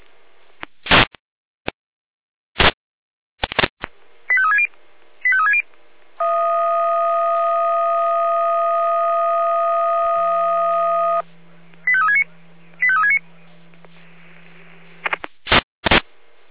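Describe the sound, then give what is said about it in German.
Radio alarm call tones from the Jena dispatch centre (Leitstelle Jena): sharp squelch clicks, short chirping tone bursts, then a long steady chord of several pitches over a low hum, followed by more chirps and clicks. “Auf Funkstelle, Leitstelle mit Alarmruf.”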